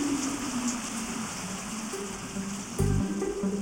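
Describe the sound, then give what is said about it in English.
Steady rain falls in a continuous, even hiss, with a low droning tone underneath and a brief louder burst of patter near the end. No voices. “It started raining.”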